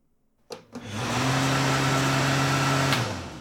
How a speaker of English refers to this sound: Here, let's move over to this hand dryer. Yes, silly. Just sit underneath it for a second.